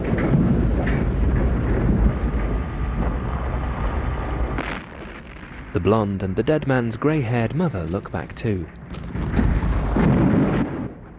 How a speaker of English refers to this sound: and the refinery tower explodes. Billowing flames engulf the compound, triggering a chain reaction of powerful explosions, showering the surrounding area with debris.